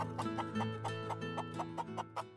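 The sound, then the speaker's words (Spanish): Hens cluck in a steady series of short, repeated calls, fairly loud, over a constant low hum with no one talking. “Las gallinas comen granos y semillas.”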